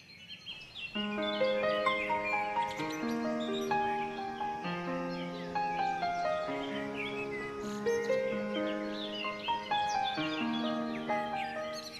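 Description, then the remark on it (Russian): In the morning, birds chirp and tweet through a window in quick, scattered bursts over a steady bed of sustained, chord-like musical tones, the calls bright, with no voices. “Утро встретило Артура, ворвавшись в окно свежим ветром и щебетом птиц.”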